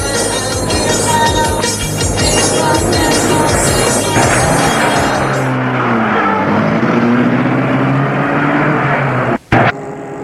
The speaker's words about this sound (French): Serge réussit à le faire asseoir dans la voiture et met la voiture en route.